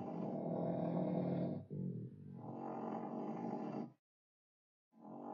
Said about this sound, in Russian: Свет погас. Через минуту раздался мерный храп.